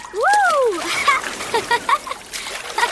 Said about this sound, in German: Wenn ich nur daran denke, höre ich schon die Wellen rauschen.